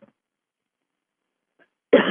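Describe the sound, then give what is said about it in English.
A single loud, harsh cough after poking the throat bursts out near the end after a stretch of near silence, abrupt, with no talking around it. “I poked my throat. Now I have to cough, so excuse me.”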